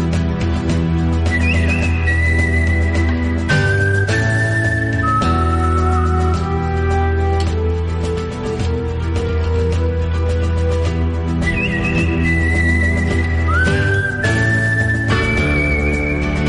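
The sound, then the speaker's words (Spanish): A whistled melody in a western film-theme style rises and glides in long held notes over a loud, steady orchestral backing, repeating its phrase twice with no talking. “¿A ustedes les suenan este chiflido? La película El bueno, el feo y el malo.”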